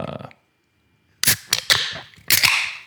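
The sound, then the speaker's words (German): Two cans of Brewski's 8% anniversary beer, Jubiläum Mango Fieber, crack open one after the other, each a sharp pop with a few clicks and a bright hiss of escaping gas, following a short moment of silence. “Und hier kommt das Geröff von das Brewski. Das Jubiläumsgeröff.”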